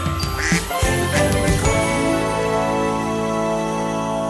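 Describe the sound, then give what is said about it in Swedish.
A telephone rings with a bright, jingling ring, a few quick metallic strikes at first, then a sustained bell-like tone that rings on steadily to the end, with no one talking. “Det ringer, det ringer!”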